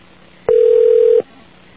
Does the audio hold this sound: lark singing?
no